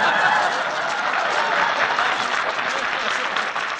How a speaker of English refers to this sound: Let him applaud.